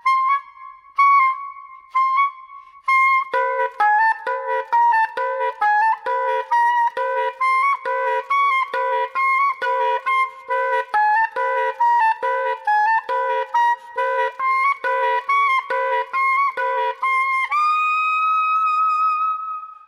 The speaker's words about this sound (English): eerie-sounding, hoarse and hollow split tones. Two notes sounded at once through tricky fingerings and precise breath control. Often he'll volley between pure tones and split ones for self-contained call and response.